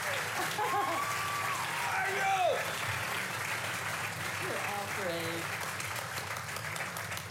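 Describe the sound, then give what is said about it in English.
An audience applauds the panelists at a panel event before a question and answer session, a dense wash of clapping sustained throughout, with a few voices and cheers rising over it now and then. “We are just about to jump into our question and answer session, but first, a round of applause for our fabulous panelists tonight.”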